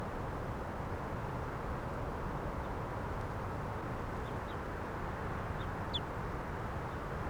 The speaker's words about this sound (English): Some other birds in the background here.